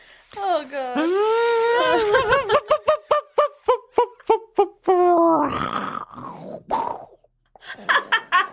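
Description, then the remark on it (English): A voice imitates an electric chainsaw felling a tree: a rising, revving drone breaks into a fast run of sputtering pulses, then a loud rough burst like wood cracking, followed by a few short choppy bursts. “Now on with the chainsaw.”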